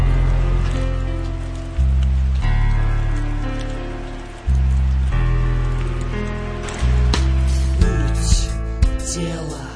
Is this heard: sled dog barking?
no